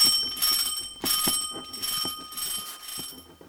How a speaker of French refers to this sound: Ce matin, le réveil a sonné aussitôt qu'un matin d'école.